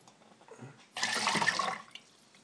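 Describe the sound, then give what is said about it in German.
A burst of rushing, gurgling water for about a second, moderately loud, as a liter of water with descaling agent runs through a machine during its descaling cycle, fading back into quiet background hiss with faint clicks before and after. “Naja, doch einmal, dann wird's das Liter Wasser plus dieses Entkalkungszeug dann durch sein.”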